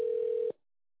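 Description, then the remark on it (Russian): A steady, pure telephone ringback tone holds for about half a second, then cuts off abruptly into silence. Clear and fairly quiet, heard alone as a call to the ASTA association connects. “Подождите, идет соединение.”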